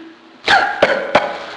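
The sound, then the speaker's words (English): Three harsh coughs in quick succession, fairly loud, the first the strongest, with a faint background hum and no talking. “Cough, cough, cough.”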